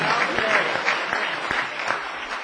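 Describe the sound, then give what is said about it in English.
An audience applauds together at a preacher's call to give God praise, a dense, steady wash of many hands clapping at moderate volume, with a few sharper claps standing out from the crowd noise. “Clap your hand and give God praise.”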